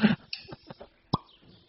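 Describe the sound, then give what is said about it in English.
A wine bottle being opened: a sharp initial pop, then a few soft squeaky creaks of the cork and another crisp snap, with no talking. “Oh, the sweet sounds of opening a bottle.”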